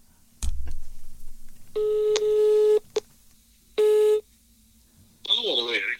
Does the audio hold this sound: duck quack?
no